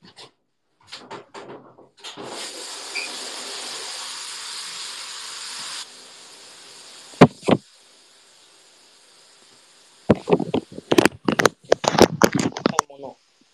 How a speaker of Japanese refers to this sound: これ今、このシャワーの音どれぐらいで聞こえてんの？聞こえてる？そもそもシャワーの音。聞こえてんのかな？わからん。